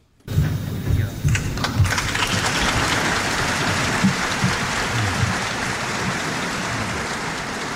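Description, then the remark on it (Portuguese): A large crowd of parliament members and ministers applauds in a parliament chamber as Ronald Reagan arrives at the podium, the clapping starting abruptly and holding as a dense, steady roar of many hands for several seconds without easing off. “Ora, os restantes partidos aplaudiram a chegada de Ronald Reagan ao púlpito e Mário Soares, à época primeiro-ministro, levantou-se de forma entusiástica.”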